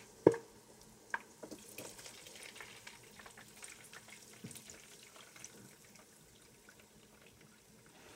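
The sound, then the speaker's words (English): Hot liquid lard, strained of cracklings, pours into a glass mason jar, opening with a sharp clink of glass, then a steady, crackling trickle that continues at a moderate level with no talking. “She then pours the lard into a glass mason jar, where it'll sit on the counter for several days, turning from a golden liquid into a white solid.”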